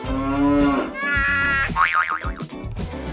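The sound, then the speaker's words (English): Game show buzzers tested one after another by the players before a quiz round: a low, mooing honk, then a bright sustained tone, a wobbly springy boing, and a few shorter clattering bursts, all fairly loud with no talking. “So, first of all, can all players test their buzzers?”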